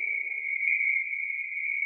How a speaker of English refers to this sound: I was very tired, and I had my headphones on and my microphone outside the tent because I was recording the nighttime sounds. I heard the hyenas yowling. I heard the frogs.